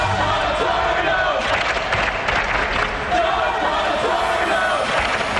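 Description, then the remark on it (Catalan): A large crowd shouts and chants "Paterno" steadily, a dense roar of many voices with rhythmic rising swells, continuous and loud throughout, from the HBO sports film Paterno about Joe Paterno. “Sense aquests crits, diu Paterno, Paterno...”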